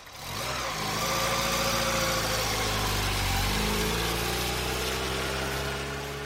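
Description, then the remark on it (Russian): A car engine turns over and settles into a steady, grunting rumble, its pitch shifting slightly as the vehicle pulls away along a black, wet city avenue lit by orange streetlamps, in drizzling rain mixed with fog. No voices. “И они поехали. Покатили, хрюкая двигателем, по черному, мокрому проспекту Героев Шипки, освещенному оранжевыми фонарями, сквозь безнадежно сеющий дождь пополам с туманом.”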